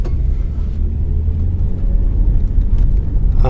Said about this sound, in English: I am in the car, as you can hear. And I am approaching Old Foamy. It's Saturday night, and I'm going for a drive. I'm in Johnson County, about an hour outside of Dallas.